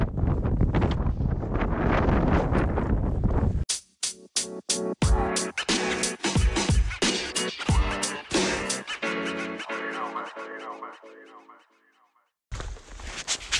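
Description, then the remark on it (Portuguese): Strong wind roars and buffets the microphone for the first few seconds, loud, on a mountain hiking trail. Then a different stretch of rhythmic, tonal sounds takes over, with a brief burst of wind noise returning at the end. “Que merecia gravar o vento aqui onde eu tô agora.”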